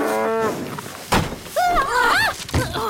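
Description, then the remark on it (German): A cow moos angrily: a short steady bellow, then a heavy thud as it butts its head hard against a wooden fence, followed by two loud, bending, groaning moos. “Ich glaube, die Kuh wird ärgerlich.”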